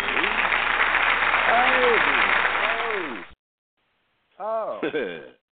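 Dense audience applause with a few rising and falling whoops mixed in lasts about three seconds and cuts off abruptly. After a short silence comes a brief, loud, wavering horn sound.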